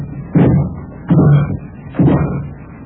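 Three heavy, booming thuds against a solid door as someone tries to break it in, spaced about a second apart, each a forceful blow with a short resonant decay, loud with no voices.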